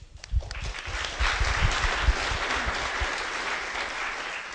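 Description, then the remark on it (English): A burst of applause from a group at a GNOME Foundation meeting, thanking the newly elected treasurer: dense, steady clapping that swells quickly and stays fairly loud throughout, with no voices standing out. “I'm sad Sean is not here to give him a huge applause to thank him, because it's a really tough job.”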